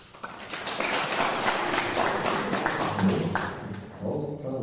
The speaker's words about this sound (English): And Prabhupada says, you clap your hands. In front of the deities, clap.